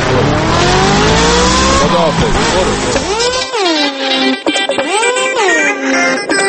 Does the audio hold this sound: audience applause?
no